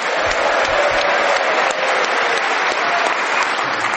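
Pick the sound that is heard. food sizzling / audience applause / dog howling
audience applause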